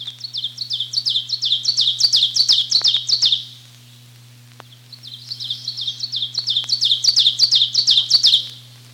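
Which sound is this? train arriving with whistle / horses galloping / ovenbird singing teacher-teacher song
ovenbird singing teacher-teacher song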